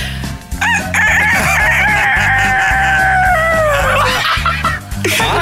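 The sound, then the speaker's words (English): A person loudly imitates a rooster's crow, one long drawn-out cock-a-doodle-doo with a rising start and falling tail, sounding convincing over a steady low rhythmic backing. “because we're playing the Roosters”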